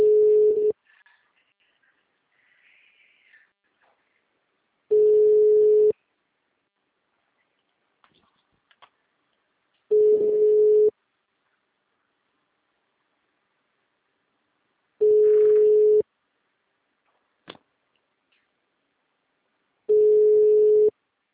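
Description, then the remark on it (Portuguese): A phone line rings out unanswered: five steady, mid-pitched ringback tones, each about a second long, repeating every five seconds, with faint murmurs and clicks in the silent gaps. “Não atende nem por um decreto.”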